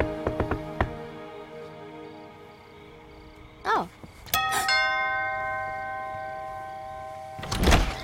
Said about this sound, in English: Did you know that your doorbell rings outside? Oh, sure. That way people will know it's working.